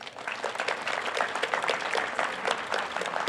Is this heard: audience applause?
yes